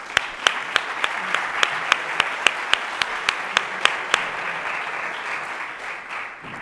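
An audience applauds in a dense, steady wash of clapping, with one louder, sharper clapper keeping a quick regular beat for about four seconds before the applause carries on more evenly.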